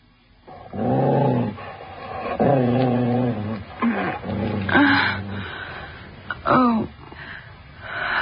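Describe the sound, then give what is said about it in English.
A dog growls and snarls in a series of drawn-out, rumbling bursts with short pauses between them, loud, with no one speaking. “Does the dog frighten you, Mrs. Grant?”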